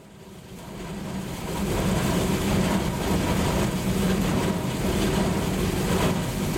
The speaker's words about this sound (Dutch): We staan hier aan de aandrijfmotor van onze shredders. Deze motor is voor ons een zeer cruciaal item in de lijn. Ook een aanzienlijke kost indien deze stuk zou draaien.